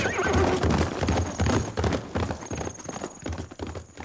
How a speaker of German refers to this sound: Wie pfeilschnell sein Pferd davonspringt.